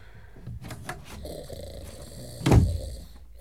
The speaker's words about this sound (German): öffnet leise die Tür und geht auf 10 Spitzen den Flur entlang, bis zu der großen Türe, hinter der er ein leises Schnarchen hört.